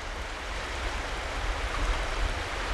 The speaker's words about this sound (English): It's called the Big Wood River.